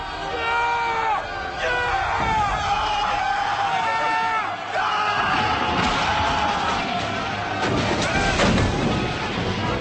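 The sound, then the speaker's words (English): A loud, dense crowd of men yelling and hollering together, many voices overlapping in rising, wavering shouts that continue steadily throughout, with occasional crashing noises underneath. “My God, listen to them yell.”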